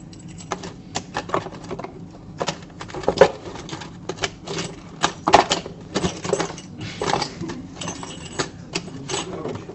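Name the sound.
keys being picked up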